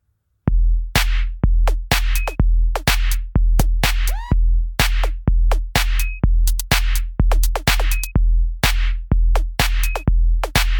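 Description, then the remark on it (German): A loud intro jingle kicks in after a brief moment of silence, with a steady driving beat, sharp percussive hits and a deep sustained bass running throughout, with no one talking. “Jetzt gibt's auch was zum Heulen, und zwar das emotionale, das emotionalste Intro in Podcast Deutschland.”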